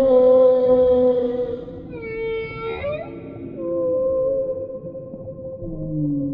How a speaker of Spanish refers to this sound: Nos muestra cómo se comunican con otras ballenas a través de su canto.